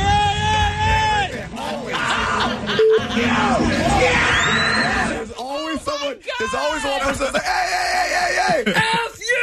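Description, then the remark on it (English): Voices imitate a rowdy crowd at a fight at a sports event, overlapping loud screams, yells and whoops in a continuous, chaotic burst, strained, with pitch swooping up and down throughout. “And then there's always the person just screaming, like, you know, just antagonizing it more.”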